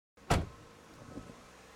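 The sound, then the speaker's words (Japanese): A car door shuts with a single loud thud that decays quickly as a man carrying a bag on his shoulder gets out of a car parked in a lot facing a street, followed by a softer rustle or bump about a second later; no one speaks. “携帯のSIMを入れ替えた彼はカバンを担いで車から降りた。”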